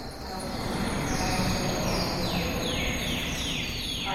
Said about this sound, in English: Sometimes it feels to me like it's like somebody's tickling my brain, you know, when I'm hearing birdsong, especially when it's live.